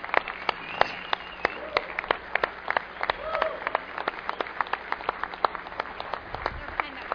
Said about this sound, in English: But guys, before we get started here this afternoon, I'd like to bring everyone out and give them a huge round of applause for the wonderful meal that they served here this afternoon.